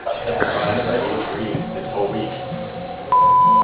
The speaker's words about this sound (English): If you'd like to leave a message, please do so after the beep.